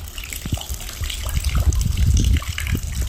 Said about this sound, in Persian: ستون تالار بهارانه‌اش فرو رفته از سقف آن در باران و برف آب جاری می شود.